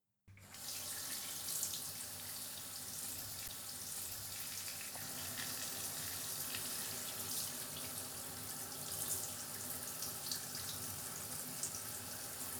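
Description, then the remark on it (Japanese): Steady running water streams continuously from a shower rinsing hair and scalp with warm water, a broad hiss with faint splashing and dripping textures, with no voices. “それでは、シャワーで流しますね。”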